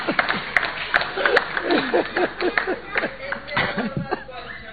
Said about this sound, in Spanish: No, si la radio no escatima en efectos especiales. No lo aplaudan, que va a venir un bis, por favor.